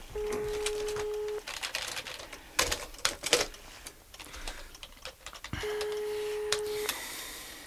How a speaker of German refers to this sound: Ach, nimmt keiner ab. Vielleicht ist sie im Garten und hört das Telefon nicht.